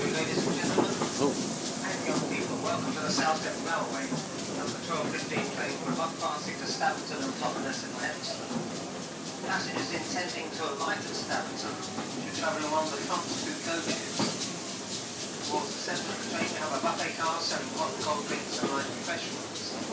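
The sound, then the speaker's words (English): A train engine gets underway and the train rumbles steadily along the rails with a constant mechanical drone and faint rhythmic clatter, heard from inside, with indistinct voices murmuring underneath. “that's the engine underway.”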